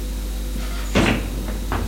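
door being closed

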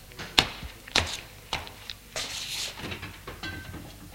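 refrigerator door opening

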